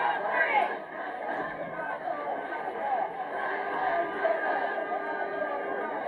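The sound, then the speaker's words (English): A steady wash of crowd noise from a Black Lives Matter demonstration in Bournemouth, Dorset, many voices blending into an unbroken babble with occasional louder swells, no single speaker standing out. “That was the crowd in Bournemouth last year.”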